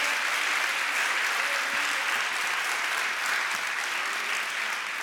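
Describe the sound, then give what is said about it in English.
An audience at a morning church service claps their hands as one more hand clap of praise to the Lord, sustained, dense applause, a steady wash of overlapping claps that stays loud and even for the whole stretch with no voices breaking through. “Can we give the Lord one more hand clap of praise?”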